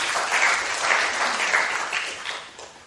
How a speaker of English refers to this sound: The work is moving. Clap for Boko Uganda team.